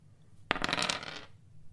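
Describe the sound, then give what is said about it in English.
Two dice clatter across a hard surface, landing on a 3 and a 2: a sharp first impact followed by a quick burst of rattling clicks that fades out in under a second, fairly loud with no talking. “That was a 3 and a 2. Two. And it's a zero dice roll, so it's a 2.”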